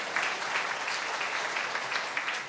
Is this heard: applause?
yes